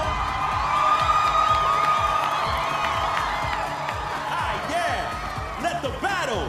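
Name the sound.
crowd cheering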